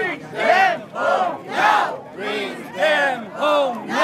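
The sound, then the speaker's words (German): Hundreds of hostages' relatives on a march from Tel Aviv to Jerusalem chant "Bring them home, now" in unison at Shar Lavim, halfway between the cities, repeating it over and over in a steady rhythm, each shouted phrase rising and falling in loud regular bursts. “Holt sie nach Hause, jetzt, rufen sie immer wieder.”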